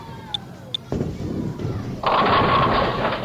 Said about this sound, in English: Okay, I didn't get a strike that time. You knocked over 9 pins, leaving 1 pin standing.